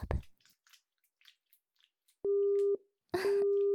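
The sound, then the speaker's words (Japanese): A telephone busy tone sounds twice after a phone call is cut off, two steady, clear half-second beeps separated by a short pause, following a soft thump and a few faint wet clicks and rustles. “電話切れちゃいましたね。”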